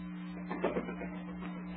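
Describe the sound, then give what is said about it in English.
A boxer, Kid Cokie, pounds a punching bag during a workout at the gym in a quick series of soft, dull thumps over a steady low hum, with no voices. “But first, the gym, where we find Kid Cokie punching the bag, Jane watching closely.”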